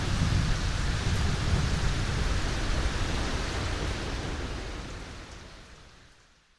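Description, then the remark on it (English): A heavy, rumbling roar of thunder over steady rain, with deep low-end weight that swells loudly and then slowly fades out over several seconds. No voices. “Thunder crashes and the comms go silent for the rest of the storm.”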